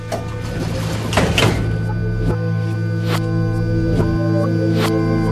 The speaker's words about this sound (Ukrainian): Осторожно, двери закрываются. Следующая станция Кантемировская.